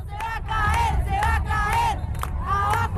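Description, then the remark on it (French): A huge crowd of tens of thousands of Argentine women chants in unison in central Buenos Aires on 9 March 2020, the day after International Women's Day, under a grey, heavy sky with a storm threatening: loud rhythmic bursts of many voices rising and falling in repeated phrases over a constant low crowd rumble. “Au lendemain de la Journée internationale des droits des femmes, des dizaines de milliers d'Argentines se pressent dans le centre de Buenos Aires.”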